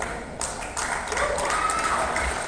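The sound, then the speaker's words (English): An audience breaks into loud, sustained clapping that swells after a brief start, with crowd voices cheering and a short high whistle-like tone riding over the applause. “You know how many times we have clapped for people today?”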